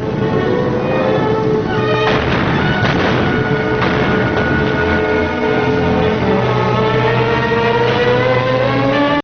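A few loud, sharp gunshots echo through a mountain gorge in the first half, their crack trailing off, over a steady, droning mechanical hum that runs the whole time; from black-and-white newsreel footage.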